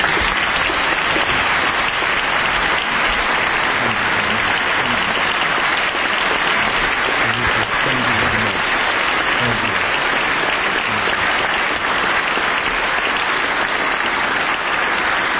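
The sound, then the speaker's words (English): A large audience applauds loudly and steadily as California's 38th governor, Arnold Schwarzenegger, is presented, a dense wash of clapping that holds without letup for the whole stretch, with faint voices mixed in underneath. “Lots of applause.”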